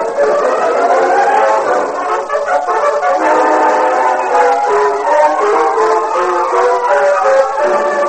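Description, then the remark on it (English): A steam express train's whistle sounds from the west in a long, steady, loud chord of blended tones, wavering slightly as the train approaches the station at Clarksville at sunrise, with no voices. “Just as blood-red sun lifted itself above the horizon in the east, a whistle sounded from the west, and 5 minutes later, the express steamed into the station at Clarksville.”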